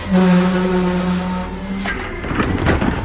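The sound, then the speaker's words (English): A large garbage truck collecting waste on a residential street early in the morning idles with a steady low engine hum, then a sharp hiss of air brakes releases, followed by rumbling and clanking from the truck. “You may have noticed this sound on your street earlier in the morning than you're used to.”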